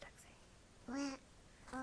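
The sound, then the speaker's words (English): A person imitates a duck with two nasal, buzzy quacks, one drawn-out and a second cut short at the end, with quiet pauses around them. “Said the duck.”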